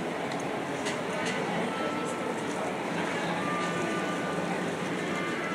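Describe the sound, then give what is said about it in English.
A steady wash of water and ambient rumble from a ride on a long, skinny gondola boat, unbroken for several seconds, with faint indistinct voices mixed into the background. “And just like before, I'm going to try to record this ride like I did the other day.”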